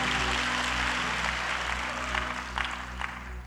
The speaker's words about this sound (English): Now clap those hands as you take your seat.